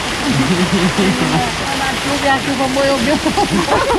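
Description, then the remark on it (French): Water leaks through a roof in small leaks during heavy tropical rain in the Amazon, with a steady splashing and rushing sound that never lets up, while a man talks over it. “Ah, il y a des fuites.”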